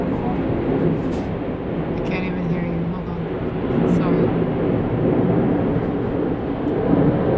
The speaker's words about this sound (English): Planes here, pretty endless. Yeah, they're right by the airport.